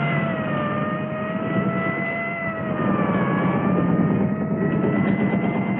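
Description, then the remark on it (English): A police motorcycle siren wails with slow, smooth pitch glides over a steady engine rumble, loud, swelling slightly as the motorcycle approaches before stopping to let an army truck pass. No one speaks. “He looks toward the siren, a police motorcycle coming toward him.”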